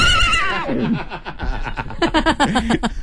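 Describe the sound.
A person's voice mimics a horse whinny on a radio show, starting with a high, wavering squeal that drops in pitch, then breaks into a rapid, fluttering series of loud nickering pulses.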